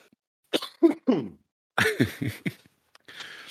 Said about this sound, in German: Ey, ich bin immer noch erkältet. Also nicht schlimm, aber ich kriege diesen Husten nicht los.